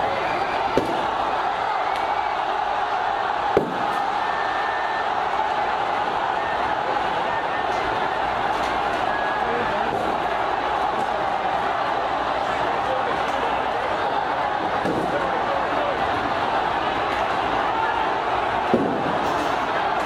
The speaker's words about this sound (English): And at 6 p.m, riot police fired tear gas into the crowd.